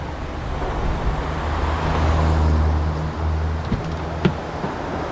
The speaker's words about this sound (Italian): Quello è un carro attrezzi.